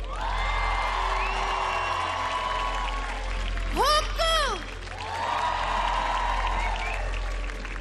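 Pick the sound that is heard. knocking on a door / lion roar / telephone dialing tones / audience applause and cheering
audience applause and cheering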